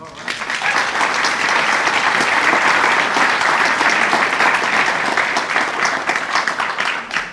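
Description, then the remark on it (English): An audience in a room breaks into sustained applause, dense overlapping claps holding steady and loud for several seconds before easing slightly at the end. “And you applaud, as you should, and it shows your comradely generosity, decency.”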